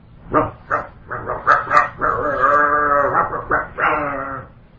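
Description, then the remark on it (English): A dog barks outdoors during a filmed interview of Prabhupada in Los Angeles, in a quick series of sharp barks, then longer, drawn-out yelping cries, loud, with no voices present. “there was an interview little video Prabhupada being interviewed in Los Angeles, and at a certain point during the interview, you could hear outside a dog barking.”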